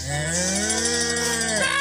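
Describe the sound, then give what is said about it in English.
A person imitates a cow with one long, loud moo that slides upward in pitch and holds steady before tailing off, performed alone. “The cow broke loose.”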